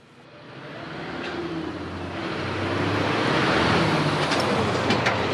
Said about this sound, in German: Der Verkehr verstopft Zwipkingen am späten Nachmittag die Strasse. Eine Menschenmasse strömt aus dem Bus.